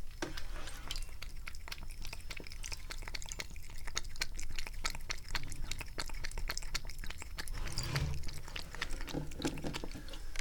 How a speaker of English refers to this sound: So we pour out the old kitty water. We put the bowl back down on the floor. And we get the kitty water jug. And we pour some kitty water. That's a thirsty cat.